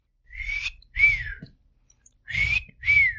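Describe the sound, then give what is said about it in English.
A person whistles a short tune from an Irish Spring soap commercial: four clear notes, two close together, a brief pause, then two more, each note sliding slightly in pitch, moderately loud with no talking. “I think the whistle went something like this.”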